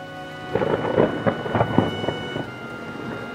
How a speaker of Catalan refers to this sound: La pluja cau amb força i fa cercles petits sobre l'aigua del llac. Els turons del fons gairebé no es veuen, amagats darrere la cortina d'aigua que baixa dels núvols.